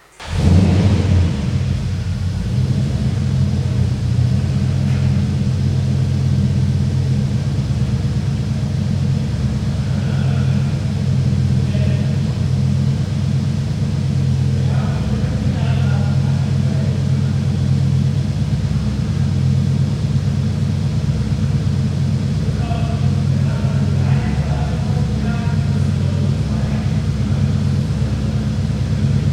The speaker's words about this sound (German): Aber der Motor, muss man sagen, ist ja ein 5 Liter V8.